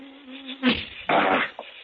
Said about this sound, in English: Mosquitoes.